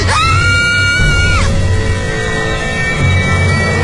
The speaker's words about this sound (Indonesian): Aku langsung menutup mata dan telinga dan langsung menjerit keras-keras.